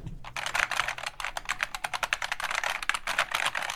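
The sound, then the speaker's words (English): Rapid, steady typing on a clicky mechanical keyboard, with dense sharp key clicks running continuously and no voices. “A special clicky key keyboard?”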